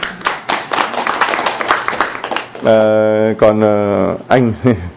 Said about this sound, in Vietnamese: Vâng, chúng ta cảm ơn hai câu trả lời bằng một tràng pháo tay thưa anh chị em.